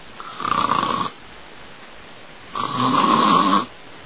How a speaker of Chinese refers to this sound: 回到东屋，把门掩上，时间不大，呼噜声出来了。